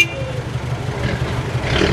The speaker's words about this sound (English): The Hindustan Motors Ambassador was so noisy that kids playing on the street could safely hear it blocks away.